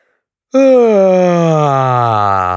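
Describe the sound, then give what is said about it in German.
A loud, drawn-out yawn from one person raising the arms as a quick relaxation exercise begins abruptly after a moment of silence. The voiced groan holds steady for about two seconds while its pitch slowly sinks. “Sie stellen sich auf, die Beine bleiben locker, dann heben Sie die Arme und gähnen laut. Etwa so.”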